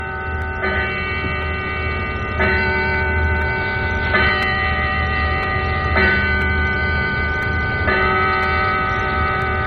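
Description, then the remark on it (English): A clock chimes with slow, evenly spaced strikes about every two seconds, each ringing tone overlapping the last, over a steady low hum. No one speaks. “I'm going to wait till the clock finishes chiming.”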